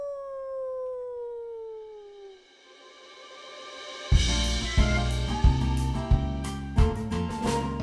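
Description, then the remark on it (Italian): A single long wolf howl glides downward and fades over a couple of seconds, then a lively music track with punchy beats starts up after a short pause. “Parola di lupo cattivo. Au!”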